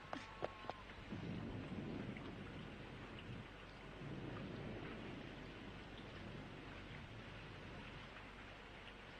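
Steady, dense rain pours down continuously, with a rumble of thunder rolling underneath; a few sharp knocks come right at the start, then the downpour carries on evenly.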